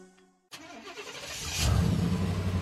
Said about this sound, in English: There goes Pam Yonke across Wisconsin in her suburban truck.